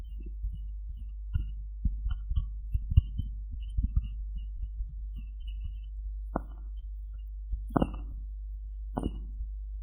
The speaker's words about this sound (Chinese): 还想听心跳声，好啊，一会儿给你弄。